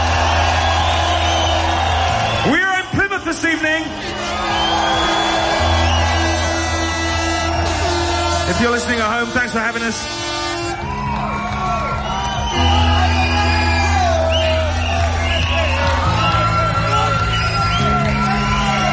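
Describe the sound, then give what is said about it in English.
A crowd at the club Scream screams and whoops over thumping dance music with heavy bass during a Radio 1 Essential Mix broadcast, while a man talks over the din. The cheering comes in loud bursts throughout. “We are at Scream tonight. They live up to their name, don't you?”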